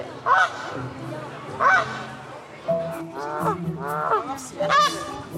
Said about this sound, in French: Il y avait aussi des oies qui faisaient beaucoup de bruit.